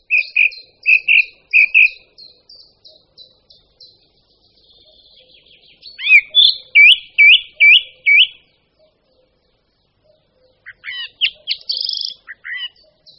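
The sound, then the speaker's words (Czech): A song thrush sings clearly, each short whistled or chirping phrase repeated several times before switching to a new one, with brief pauses between bursts and no other sounds. “po sobě opakovaných větách, halasně vyspěvovaných z vršku stromu, pozná i zcela neskušený ornitolog, že jde o drozda zpěvného.”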